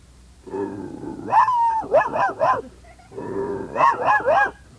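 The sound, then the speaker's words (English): A shepherd dog named Fido gives two loud bouts of vocalizing, each opening with a drawn-out whining howl that breaks into three quick, yelping barks. No one speaks. “He's the shepherd.”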